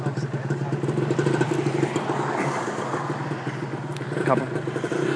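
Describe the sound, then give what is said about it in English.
A loud motorcycle taxi engine with its exhaust silencer removed runs rough, a steady throbbing rumble with brief revs, carrying a pillion passenger and drowning out a voice talking underneath. “Okay, so I'm on the back, and I think he's removed the silencer from his exhaust, so you're not going to hear anything more, plus it's going to get very windy.”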